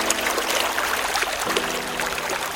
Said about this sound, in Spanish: La montaña era selvática y estaba rodeada de grandes precipicios, y abajo, en el fondo, se oía el murmullo del río.